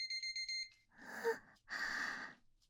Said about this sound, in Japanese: タイマー鳴っちゃいました。射精してないのに鳴っちゃいました。